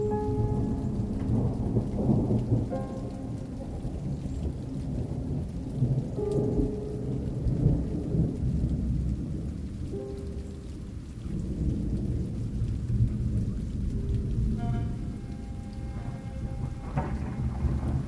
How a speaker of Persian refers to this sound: باران می بارید. این را می توانستم از صدای چکیدنش در کوچه ها احساس کنم.